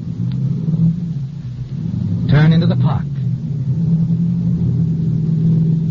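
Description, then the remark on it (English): A car is started and its engine rumbles steadily, with a low revving drone running the whole time, while a voice speaks briefly over it midway. “You start the car.”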